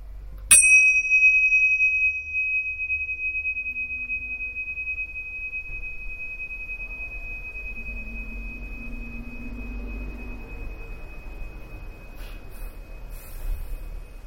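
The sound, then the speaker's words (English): A single bell is struck once, ringing with a clear high tone that slowly fades as its vibration sustains for many seconds over a low background rumble. “You'll be aware of the background noise, but keep your attention on the vibration of the bell.”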